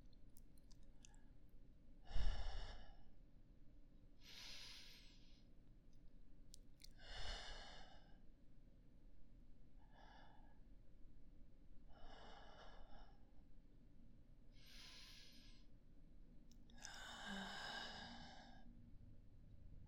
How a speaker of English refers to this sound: just press your head to my chest. Don't be shy. Just relax in my arms. Close your eyes and listen to my breathing while you offer your prayers.